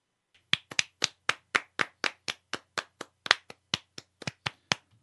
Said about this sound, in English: She's giving you a round of applause